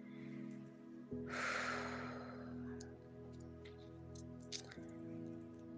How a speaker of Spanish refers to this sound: Hazlo nuevamente si lo ocupas. Respiras profundo por la nariz.